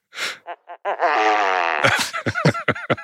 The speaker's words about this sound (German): Das ist nämlich die Großtrappe. Fand ich sehr passend für diesen Anlass.